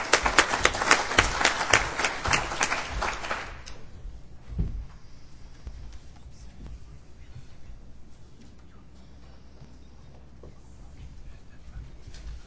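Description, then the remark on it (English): An audience at a conference claps for a speaker in a dense, lively burst of applause for a few seconds, then it quickly dies away, leaving a quiet stretch with faint shuffling and small knocks. “I'd like you to give a warm round of applause”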